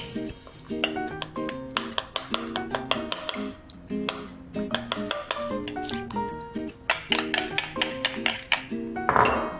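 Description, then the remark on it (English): A utensil stirs peanut sauce with fresh lime in a bowl, making rapid, repeated clinks and scrapes in an uneven rhythm, with bright ringing tones throughout and no talking. “And then we'll mix that up a little bit.”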